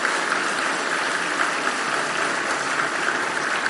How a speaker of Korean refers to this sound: 찬송을 준비하신 강주구역 성도들에게 큰 박수를 보내주시기 바랍니다.